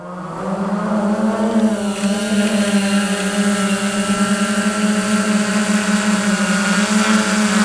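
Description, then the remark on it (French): A drone's motors spin up with a rising buzzing whine, then settle into a loud, steady droning hum with layered tonal harmonics as it flies, with no voices. “Donc là, le drone est en l'air.”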